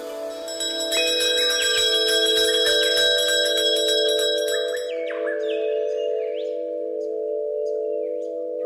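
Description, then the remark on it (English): Soft, sustained bell chimes ring with shimmering overtones, layered tones swelling and fading gently over several seconds, with a few light, high chirpy accents near the end. No voices. “soft bell chime sound effect.”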